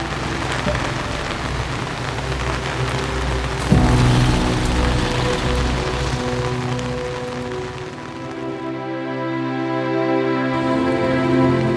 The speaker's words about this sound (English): And then, as if on cue, the day darkened and the rain came.